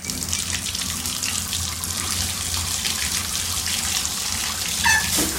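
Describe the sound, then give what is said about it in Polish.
Tap water runs steadily into a sink, a constant splashing hiss, with a brief brighter clink near the end. No voices are heard. “Taką to znaczy nie słoną morską, tylko kranówkę.”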